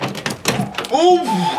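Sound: door opening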